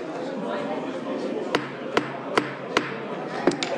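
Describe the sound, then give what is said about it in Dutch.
A chairman's gavel raps six times, four steady strikes followed by a quick pair, sharp over a low murmur of chatter, calling a municipal council meeting in Roosendaal back to order. “Het ziet er naar uit dat ik de hamer nodig heb”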